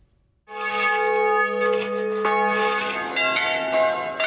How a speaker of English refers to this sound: Easter Sundays have been ringing in this way for centuries. Here in the ridgetop town of Enyone, bells chime from 14 churches.